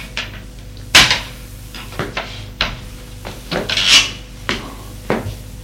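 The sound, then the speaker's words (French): In a large room, a wooden chair scrapes and knocks against the floor in a series of short, rasping bursts, fairly loud, as a man sits down on it facing another man. No one speaks. “s'assoit en face sur une chaise.”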